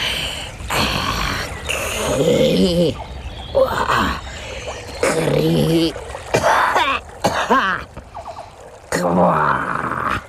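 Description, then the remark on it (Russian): A human voice imitates the toad Rozitta, letting out a string of raspy coughs and throat-clearing grunts mixed with drawn-out creaky groans like an old tree, fairly loud, in uneven bursts with short pauses. “Жаба Розитта закашляла, заскрипела, как старое дерево.”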